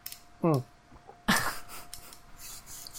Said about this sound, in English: You are coughing.